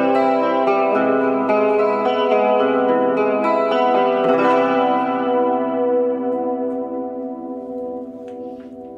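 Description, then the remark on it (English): A sustained, droning musical tone drenched in heavy reverb and echo, its layered harmonics smearing together before slowly fading out. No one speaks. “Reverb is back on full effect.”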